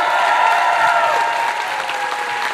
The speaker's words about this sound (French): Amour, on est au festival Trip d'humour de Trois-Rivières. Est-ce qu'on peut les applaudir? C'est leur première édition!